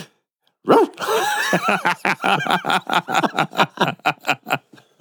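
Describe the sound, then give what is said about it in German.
A person gives a short, loud imitation of a dog's bark, done as a dare, which breaks into several seconds of rapid, rhythmic laughter. “Du musst bis zum Ende der Folge immer bellen, wenn ich Ja sage.”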